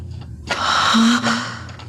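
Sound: sharp gasp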